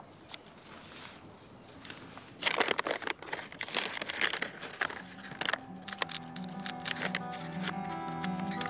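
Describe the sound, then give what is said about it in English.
Dry scratching of a pencil marking out the letters of an inscription by hand on sandstone in short irregular strokes, starting after a quiet moment, with a faint steady tonal hum rising underneath toward the end. No one speaks. “Steve's marked out the inscription using a pencil”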